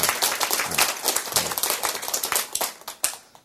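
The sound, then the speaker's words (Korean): A burst of applause from a group, many hands clapping in a dense, crackling patter that holds steady for a few seconds, then thins out to a few scattered claps at the end. “박수.”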